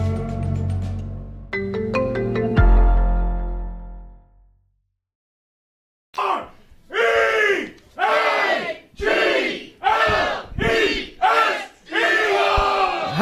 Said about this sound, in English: the crowd here at Klondike Kates in Newark, Delaware, bringing us back with an Eagles chant. That's awesome.